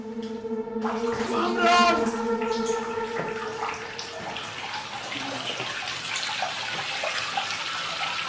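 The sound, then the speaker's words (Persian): Water runs steadily from a tap or into a tub, a continuous rushing hiss, with a brief muffled voice-like gurgle rising over it near the start. “صدای آبو دوست داری؟”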